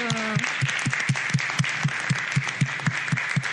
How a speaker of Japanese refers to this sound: And so, first of all, let's give him a hand of thank you for helping us. まず感謝の拍手を送りましょう。ありがとう。